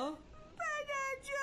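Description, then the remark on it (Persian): A child cries loudly in two high-pitched, wavering wails, after a brief, quieter whimpering sound at the start; the child is crying after being slapped by their mother. “تو چرا گریه میکنی جانی پدر؟”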